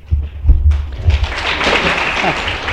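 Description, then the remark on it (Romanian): An audience at a literary gathering in Craiova, Romania, breaks into applause for a writer after a few low thumps, the clapping swelling into a dense, steady patter that carries on through the end. “Vă rog să nu mai aplaudați, că timpul e scurt, eu am tren.”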